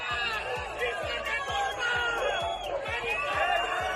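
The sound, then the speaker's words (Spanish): A large crowd of local residents boos and jeers loudly at the arrival of government delegate Pilar Bernabé, a dense wall of overlapping voices with steady rhythmic thumps beneath, continuing without pause throughout. “A la llegada de Pilar Bernabé, delegada de gobierno, los vecinos de la localidad le han proferido abucheos.”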